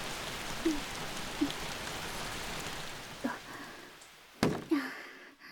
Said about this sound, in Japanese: 雨が止むまでここで雨宿りしましょうか。